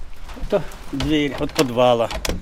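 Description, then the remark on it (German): A green wooden door to a school cellar creaks open, its hinges giving two drawn-out, wavering groans with a short pause between them, plus a few faint knocks at the start. “Das ist die Tür zum Keller, durch die wir alle gegangen sind.”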